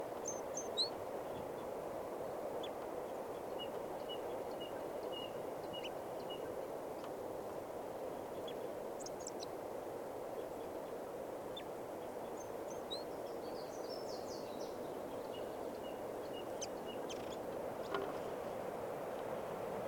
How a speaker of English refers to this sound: The party had walked out into the park a little ways, and there's another male here singing a song up in the tip of a branch.